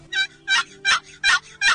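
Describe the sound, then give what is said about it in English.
A turkey box call, its lid drawn across the box, sounds a slow, lengthened gobbler yelp: five evenly spaced, raspy, coarse notes in a steady rhythm, fairly loud, with no talking. “to kill fall gobblers, you need to learn to gobbler yelp. We'll do the first one on the box calls.”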